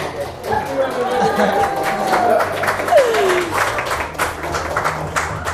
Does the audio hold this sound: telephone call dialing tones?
no